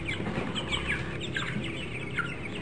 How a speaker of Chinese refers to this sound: 无，那是啥物？ 嘿，小鸡呀、 啊！啊对嘞。